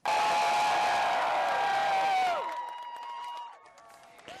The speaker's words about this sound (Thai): คนจำนวนมากโห่ร้องยินดีที่ทำการของศาลสูงหรือ Supreme Court ของสหรัฐในกรุงวอชิงตันเมื่อวันศุกร์หลังจากคณะผู้พิพากษาลงคะแนน5-4สนับสนุนสิทธิตามรัฐธรรมนูญให้คนรักเพศเดียวกันสามารถแต่งงานได้ทั่วสหรัฐ